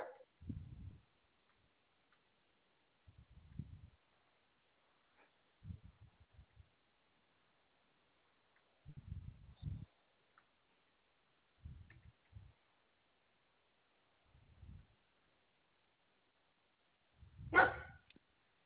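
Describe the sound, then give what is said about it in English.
A dog barks in short, low, muffled bursts, about seven spaced a couple of seconds apart, ending with one louder, sharper bark. No one speaks. “No barking.”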